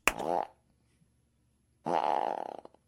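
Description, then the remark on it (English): Two loud, buzzy fart noises made with the mouth, a short blast followed after a pause by a longer, rattling one, with silence between them. “It's just a loud fart, aggressive fart.”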